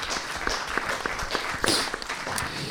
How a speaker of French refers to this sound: on peut applaudir son intervention, s'il vous plaît.